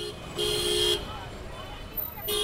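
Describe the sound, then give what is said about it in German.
Busy street traffic in Mumbai, India, rumbles steadily while a car horn blares twice, one sustained honk of about half a second, then another starting just before the end, loud. “Straßenlärm im indischen Mumbai.”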